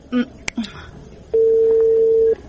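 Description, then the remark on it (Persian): A couple of brief murmurs and a click, then a steady electronic phone tone sounds for about a second, clear and close, as a number is dialed on a mobile phone. “خو باش که موبایل ما در کجا مانده. اینه پیدایش کدم.”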